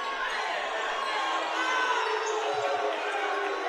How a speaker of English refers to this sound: And you can hear the boos from the crowd. I thought that it was the and-one signal. Instead, an offensive foul.